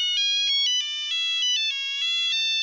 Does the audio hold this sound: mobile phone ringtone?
yes